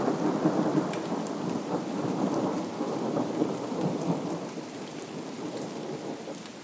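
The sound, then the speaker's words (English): A sudden heavy rain downpour on 13 June roars steadily, a dense wash of drumming drops on surfaces with a low rumbling undertone, no voices present. “The heavens have opened.”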